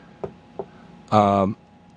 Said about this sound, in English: Knock wood, oh Christ, what have I said?